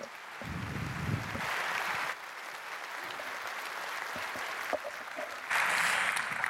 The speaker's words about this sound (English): Big round of applause, please.